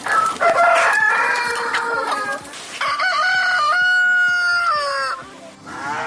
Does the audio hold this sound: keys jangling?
no